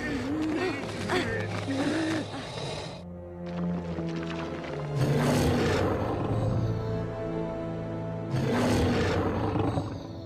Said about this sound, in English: Sarah picks Guido up and carries him. The dinosaur roars at them from the archway as they run off.